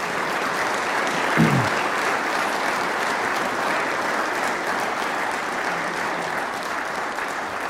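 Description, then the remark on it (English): An audience gives a round of applause to wish two people well, a dense steady wash of clapping from many hands lasting several seconds, with a brief louder swell near the start and no speech over it. “I think it'd be the best we can do is just give them a wee round of applause to wish them well.”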